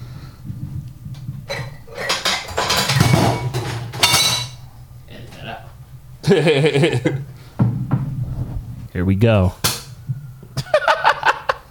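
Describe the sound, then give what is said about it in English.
A bottle being opened to celebrate: clinking glass, scraping and handling noises in several short bursts, with a quick remark and a few voices in between. “But you know, we got this bottle. We gonna pop to celebrate.”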